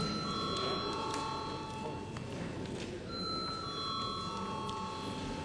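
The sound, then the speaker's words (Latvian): A steady electric bell rings continuously for several seconds in a parliament, calling deputies to vote on a law in its third and final reading; its high sustained tones shift slightly midway, over a constant background hum and murmur of voices. “Aicinu deputātus nobalsot par šo te likumu trešajā galīgajā lasījumā. Lūdzu, zvanu.”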